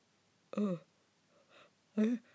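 A person yawns, with two short, breathy voiced bursts separated by a softer exhale in between, and no speech.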